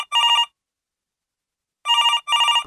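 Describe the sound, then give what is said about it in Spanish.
A telephone rings in short trilling bursts as a call comes in to the radio program Evita el Maltrato: one ring, a long pause, then two more rings back to back, loud with no one talking. “¡Ay, qué bueno! Empezaron a llamar. ¿Aló?”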